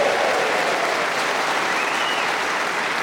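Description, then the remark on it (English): An audience applauds Colin Sell steadily, a dense, even wash of many hands clapping at a constant loud level for the full few seconds, with no voices rising above it. “So let's have a big round of applause for God's sake.”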